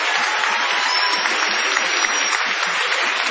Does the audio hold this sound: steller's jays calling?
no